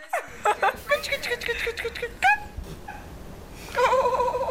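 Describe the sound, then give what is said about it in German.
A rapid series of short, high mewing calls from a cat in a cat video, fairly loud, ending in a longer drawn-out meow over faint background noise. “Die Katzenvideos erfüllen gleich ihren Zweck.”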